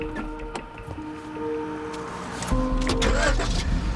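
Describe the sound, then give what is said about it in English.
A few sharp clicks and a steady mechanical hum, then a car engine turns over and catches as Rakim climbs into his car, its low rumble swelling louder with a rising whine over the last second and a half. “Rakim climbs into his car.”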